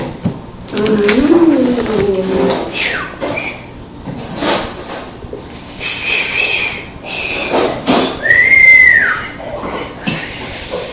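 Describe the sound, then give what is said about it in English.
A person attempts a short, wavering whistle, a single rising-then-falling note near the end, amid household clatter and shuffling with faint voices around. “I'm learning how to whistle, see?”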